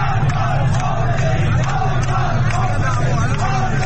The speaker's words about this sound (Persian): در تهران نیز از منطقه نازی‌آباد ویدئویی در شبکه‌های اجتماعی منتشر شده که نشان می‌دهد مردم در کنار شادمانی برای قهرمانی تیم استقلال علیه رهبر جمهوری اسلامی شعار می‌دهند.